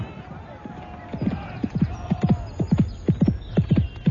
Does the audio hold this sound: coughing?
no